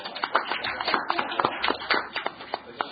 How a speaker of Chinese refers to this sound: 俾啲掌声啊。